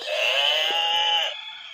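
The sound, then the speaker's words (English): A single loud barnyard animal call used as a quiz game buzzer, a strained, drawn-out bleat-like cry lasting just over a second, alone with no talking. “Get out your barnyard buzzers.”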